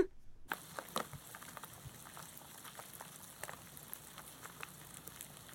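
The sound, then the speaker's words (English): Beetles feeding on an owl carcass make a dense, steady crackle of tiny clicks and snaps, like faint sizzling or light rain pattering, with no voices present. “We actually have a sample of how they sound. working on an owl carcass”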